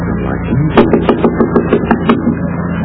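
A quick series of about seven sharp knocks on a wooden door, evenly paced and fairly loud, over a steady low hum, with no voices.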